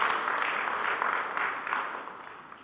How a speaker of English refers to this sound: Praise God. Would you applaud for that? We thank God for that.